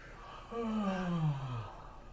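A single long, deep exhale with a voiced, descending moan-like tone, fairly loud, sounding much like a yawn or heavy sigh, lasting just over a second, made as breathing during yoga.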